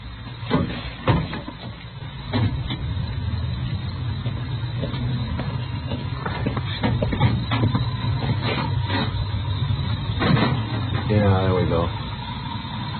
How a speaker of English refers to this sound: Well, I guess it's hard to check the engine number anyway. Yeah, I'll get the hood released.